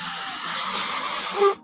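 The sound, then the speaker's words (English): A steady, breathy rush of air is blown into a rubber balloon for over a second, swelling slightly louder near the end before cutting off. “Here, blow up this balloon.”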